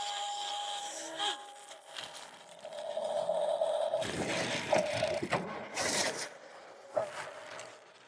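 A small excavator motor whines steadily while wooden blocks clatter and scrape into a truck bed in several loud bursts as the excavator loads the blocks back into the truck, with a final knock near the end.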